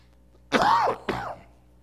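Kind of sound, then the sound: human body sound, throat clearing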